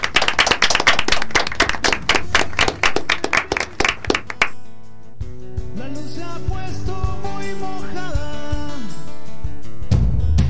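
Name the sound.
applause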